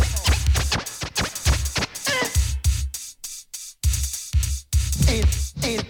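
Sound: DJ turntable scratching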